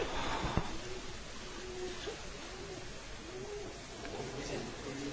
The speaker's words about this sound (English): Oh, it's a pigeon. I thought it was a pigeon ringer. These days, you just don't know. All right, pigeons are really nice.